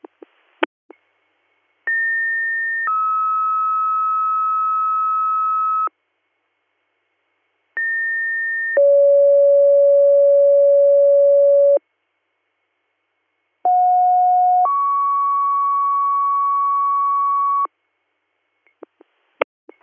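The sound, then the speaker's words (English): Three pairs of steady electronic emergency dispatch pager alert tones, each a short higher pitch followed by a longer lower one, separated by brief gaps, loud and clear with faint clicks at the start and end. “Ridgebury EMS, Greater Valley for ALS, Guthrie, disregard your tones.”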